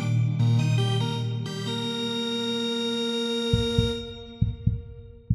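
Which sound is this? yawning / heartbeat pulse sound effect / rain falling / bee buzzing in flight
heartbeat pulse sound effect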